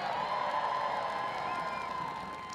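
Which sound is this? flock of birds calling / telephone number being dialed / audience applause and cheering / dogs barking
audience applause and cheering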